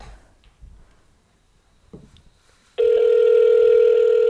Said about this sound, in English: I mean, it's ringing longer. So I know. Be calling. She's probably just going over there. She's probably just... It's actually ringing a long time.